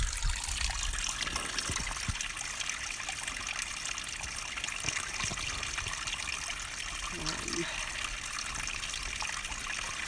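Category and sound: nature, spring water trickling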